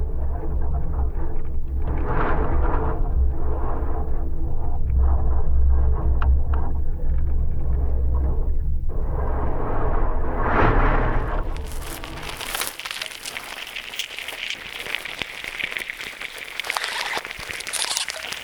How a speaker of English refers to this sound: So this is a cholla cactus with a contact microphone attached to it on a windy day, and you're hearing the wind sort of whistling through the holes in this dead cactus.